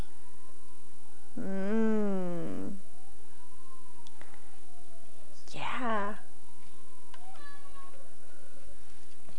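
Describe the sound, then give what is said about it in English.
A cat meows loudly, one long drawn-out call followed a few seconds later by a shorter, rising meow and a faint third one, with a person murmuring briefly. “Yeah, pet, pet, pet the kitty. Mm-hmm. Fake kitty, real kitty.”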